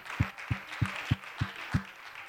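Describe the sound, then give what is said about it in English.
An audience at a church worship service claps and cheers for the Lord in a steady wash of noise while deep, evenly spaced thumps pulse beneath it, about six beats at a brisk tempo. “Why don't you applaud the Lord? He's worthy of praise.”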